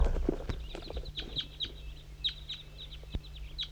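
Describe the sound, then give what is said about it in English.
A flock of about 10 birds crossing a hilltop, with a bird called 5-3 calling to it: many short, high-pitched chirps repeating in quick bursts over a low, steady background hum. Nobody speaks. “5-3 is calling for the flock to cross the hilltop. I'm gonna try to get a recording of the flock.”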